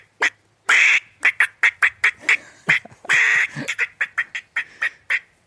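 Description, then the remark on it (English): A person imitates a squirrel's bark with the voice: a rapid string of harsh, nasal chirps, loud and close, broken by two longer drawn-out squalls, with no other talking. “Show me your squirrel bark.”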